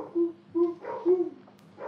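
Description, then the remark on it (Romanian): A dog barks three times at a steady pace, short tonal woofs with a slightly whining edge, moderately loud, with no one talking. “Am auzit un lătrat. Un câine este undeva, un câine lătrat.”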